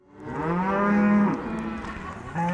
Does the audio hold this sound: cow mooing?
yes